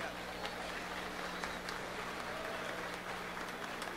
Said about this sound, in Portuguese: Até vou pedir para vocês uma salva de palmas ao nosso contrabaixo